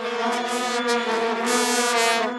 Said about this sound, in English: You may be tired of hearing vuvuzelas.